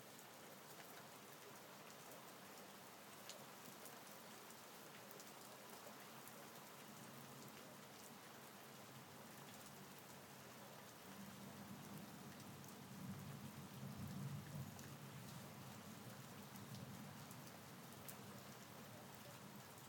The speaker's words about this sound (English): I think there's probably a couple of storms side by side.